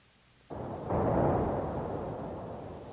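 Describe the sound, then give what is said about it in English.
A synthesized thunder rumble made from low-pass filtered noise. It bursts in abruptly, swells into a louder roar a moment later, then rolls on with a dull, muffled, slowly fading tone and no voices. “Pick noise, modified and patched through a low-pass filter, can be made to resemble thunder.”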